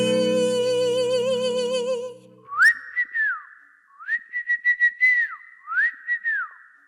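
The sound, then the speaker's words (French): After a held, wavering tone, someone whistles an imitation of forest birds singing: three clear phrases of rising, fluttering trills that fall away at the end, fairly loud. “Je vois des singes, des lapins, des écureuils, des insectes et des oiseaux qui chantent comme ceci.”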